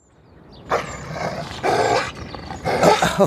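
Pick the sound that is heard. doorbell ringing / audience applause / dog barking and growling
dog barking and growling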